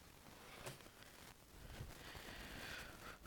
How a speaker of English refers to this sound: Deep breathing.